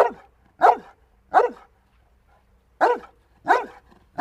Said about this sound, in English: Both of these dogs are making the exact same sound. They're barking. But the vocal quality of the barks easily gives away the size of the dog. The lower-pitched dog is a large St. Bernard